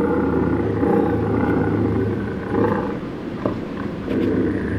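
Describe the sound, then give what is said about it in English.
A bobcat named Bob the Cat, recorded thanks to the Sonora Desert Museum, growls and yowls in a loud, harsh, rasping drone that runs almost unbroken for about five seconds, with a couple of brief swells and dips in its throaty rumble. “Oh, yes, there's bobcat out there, and will be, long after we ourselves are long gone and forgotten.”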